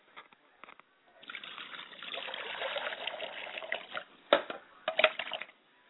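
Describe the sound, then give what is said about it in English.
Water splashing and trickling as someone washes their face during a libation ceremony, a steady wet rush broken by a few sharper splashes near the end, with no voices. “Then I wash my face.”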